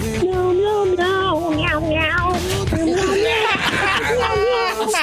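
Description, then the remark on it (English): A man sings a string of drawn-out, wavering cat meows in a strained rock-vocal style, loud, his voice sliding up and down between each mew. “He's doing the … thing with meows.”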